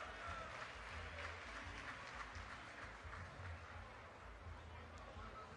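Sustained applause from a large audience for a band after a show at the 39th Carijo da Canção Gaúcha, a gaúcho music festival in Brazil, a dense steady wash of clapping with faint crowd noise, continuing without a break at a fairly even volume.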